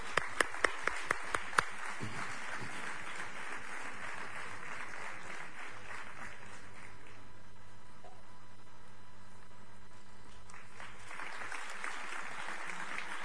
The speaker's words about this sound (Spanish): También para él un aplauso, evidentemente.